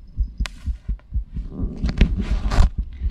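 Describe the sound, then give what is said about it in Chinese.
A rapid heartbeat thumps steadily in low, muffled pulses, fairly loud, with some brief rustling noise rising over the beats near the end. “这真的是心跳哟”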